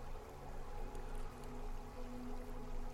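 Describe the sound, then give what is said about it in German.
Steady, continuous flowing water with a soft rushing hiss, even in level throughout, with faint sustained musical tones drifting underneath. “Jeder Klang der Musik, jeder Ton des Wassers und jedes Wort lösen mehr und mehr die Glückseligkeit in dir aus.”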